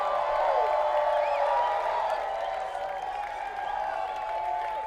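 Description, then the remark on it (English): A crowd applauds and cheers a band at an event on a farm for about five seconds, a dense, loud wash of clapping with shrill whistles and whoops rising over it, holding at an even level throughout. “everybody, let them hear it, huh?”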